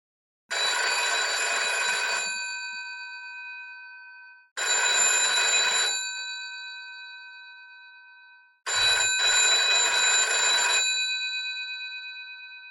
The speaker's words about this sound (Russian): Судя по длинным назойливым звонкам, вызывала междугородняя.